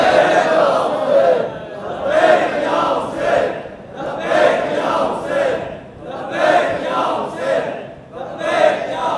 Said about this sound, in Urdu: جو جو لوگ لبیک کہنے کے لیے تیار ہیں نعرہ لگائیں گے لبیک یا حسین.